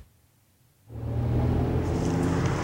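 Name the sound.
inside a moving car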